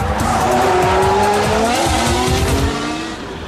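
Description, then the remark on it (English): A Formula One racing engine (power unit) revs loudly and continuously, its high-pitched whine rising and falling in pitch with a rough, rattling undertone, dominant throughout. “Shall we give the first engine a tickle?”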